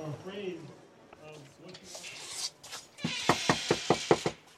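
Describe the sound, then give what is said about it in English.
A voice speaks briefly, then about six sharp, evenly spaced, loud knocks rap on a front door in Chandler, a Phoenix suburb, by campaign volunteers canvassing voters for the Basta Arpaio campaign, with faint background noise between them. “I follow three women to the Phoenix suburb of Chandler to knock on doors.”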